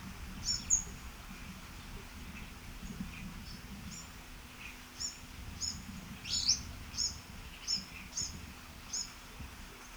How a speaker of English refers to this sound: Actually, it was an interspecific interaction with an orange-crowned warbler.